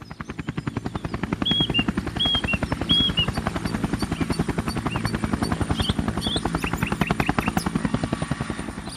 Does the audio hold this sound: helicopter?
yes